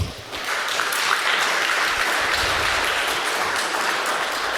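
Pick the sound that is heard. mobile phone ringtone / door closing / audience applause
audience applause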